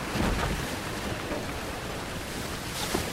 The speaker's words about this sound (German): Auf dem Weg dahin wird die Einhandseglerin mit der Gewalt des Meeres konfrontiert. Sie gerät in einen Sturm.